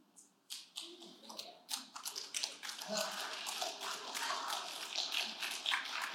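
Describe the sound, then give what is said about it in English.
A few scattered claps quickly build into steady, dense applause from a group of people clapping for the start of a new series on the Book of John. The clapping holds at an even level for several seconds with a faint murmur underneath. “I would clap for starting the book of John also.”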